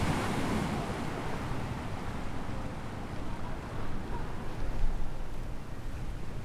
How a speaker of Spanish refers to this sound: Bueno, el mar, por supuesto, el mar, el viento, las hojas de las palmeras en el viento, las olas, eso es lo característico.